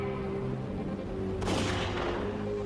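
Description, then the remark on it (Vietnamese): A single sharp gunshot, fired at a moving police car and cracking its windshield, cracks out midway and fades quickly, set against a steady, droning engine hum that runs throughout. No one speaks. “Một phát đạn khiến kính chắn gió rạn nứt như đám mạng nhện to.”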